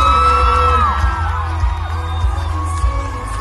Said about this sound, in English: Look at her. They're jumping together. She's holding that sign up. The crowd's going crazy.